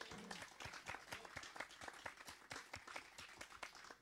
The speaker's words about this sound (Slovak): On má trému, takže mu zatliskajte ešte raz.